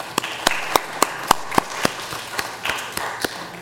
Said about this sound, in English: Let's give our new board members a round of applause.